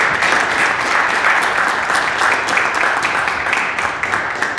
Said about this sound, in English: I think we should give a quick round of applause for Independence Blue Cross.